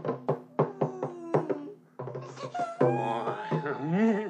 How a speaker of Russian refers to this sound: Слушай, перестань реветь перед входом в лаг. Я не могу перестать, я несчастна.